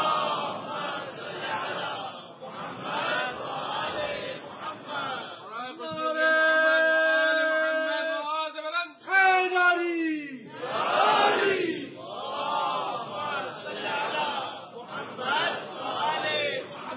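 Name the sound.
crowd chanting religious slogans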